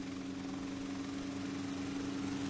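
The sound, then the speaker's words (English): The propeller engine of an almost 60-year-old T-6 trainer airplane drones steadily and loudly, a constant rumbling hum with a strong low tone, with no voices. “An amazing airplane, the one we're flying that day, almost 60 years old, this airplane.”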